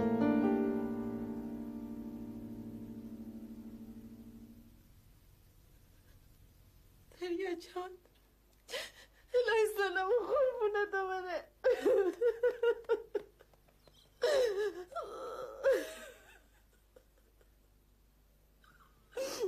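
A woman cries in halting, wavering sobs and gasps that come in uneven bursts with short pauses, after a steady low humming tone fades out at the start.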